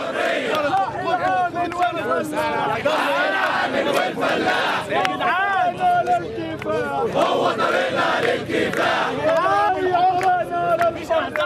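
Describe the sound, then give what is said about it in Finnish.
A large crowd at Tahrir Square in Cairo, Egypt, on a Sunday evening roars and chants continuously, many voices shouting and calling out over one another in a loud, dense, rising-and-falling clamor that never lets up. “Tahriraukio, Kairo, viime sunnuntai-ilta.”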